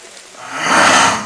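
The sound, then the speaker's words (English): A single rough, breathy tiger roar at night in the jungle swells louder over about a second and then starts to fade, heard on its own with no voices. “he saw the eyes like coals and he knew it was that one tiger who was in the area”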